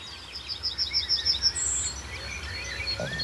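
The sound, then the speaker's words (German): Wild birdsong outdoors of orioles and yellowhammers, the yellowhammers counter-singing: a quick run of repeated high chirps, then a thin sustained note, with other calls over a steady low rumble of rush-hour commuter traffic. “Pirole sind deutlich zu hören. Goldammern, neben Kontergesang und immer noch der Berufsverkehr.”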